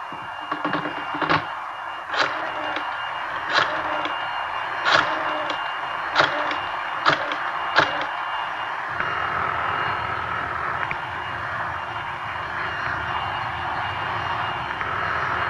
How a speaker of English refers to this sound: Wait a minute. I can't hear you. Hey, Ma, would you hold that vacuum for a minute, please? I can't hear.